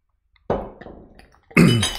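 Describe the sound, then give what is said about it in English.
A sharp glassy clink rings out and fades as a bottle of Saint Bernardus Wit beer is opened with an opener, then after a short pause a loud, steady rush of the beer pours from the bottle into a glass, with no talking. “Yeah, I'm pouring it.”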